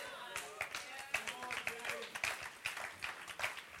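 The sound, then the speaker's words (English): Older people at Hope City Church clap steadily, many hands producing a dense, irregular patter of sharp bursts, fairly soft overall with a faint murmur of voices underneath. “That's the old people clapping just then.”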